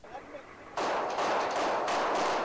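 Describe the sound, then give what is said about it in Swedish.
Gunfire from heavy street fighting between American troops and insurgents in the northern part of Fallujah, Iraq, during a US and Iraqi offensive: after a brief quiet moment, a dense, loud roar of shots bursts in and continues, with several sharper surges of firing layered on top until the end. “Det rapporteras om häftiga eldstrider mellan amerikaner och motståndsmän i den norra delen av staden Fallujah.”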